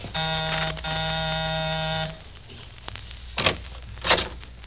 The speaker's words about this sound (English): Okay, this is it. Ring a bell, Sid.